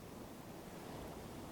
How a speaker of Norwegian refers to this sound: Bølgene som rytmisk kommer og går. Hør havet som sender bølgene inn. En puls som slår.